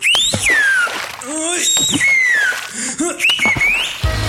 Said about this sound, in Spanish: Tírese un... y deje que los demás se hagan bolas por saber quién fue el malora. Solo puje con fuerza y su llavero chiflará automáticamente al primer ruidito. Escuche este ejemplo.